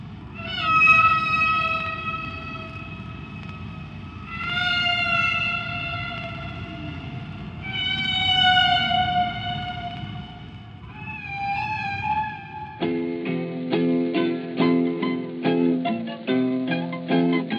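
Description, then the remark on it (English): Whale song from a single whale at natural speed and pitch: four long, squeaky, wavering tones rise and fall over a steady low rumble, then give way to a rapid pulsing, buzzy series of notes. “Here's part of the same song played at its natural speed and pitch, just the way other whales hear it.”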